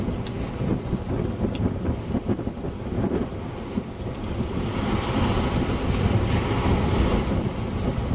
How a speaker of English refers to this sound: Oh, it's really gusty now. Really a good gust.